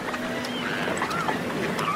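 Gulls crying in Germany over a steady wash of ambient noise, with several rising and falling calls, some overlapping, against a constant low rumble like a harbor or boat engine.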